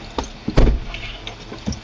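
A heavy thud of a truck door shutting, surrounded by shuffling, creaks and a few lighter knocks as several people climb into a truck and settle into a seat in pouring rain.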